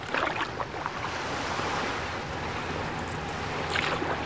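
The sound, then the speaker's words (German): Steady wash of open water with a low engine-like rumble, like boats moving on a busy waterway, with lapping waves and breezy noise throughout and no voices. “Heute sind so viele Boote auf dem Wasser.”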